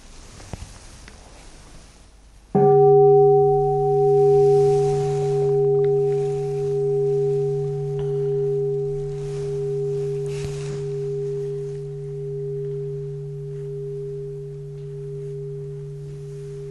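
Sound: bell ringing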